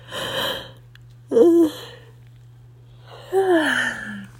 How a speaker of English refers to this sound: I just cannot stop yawning today.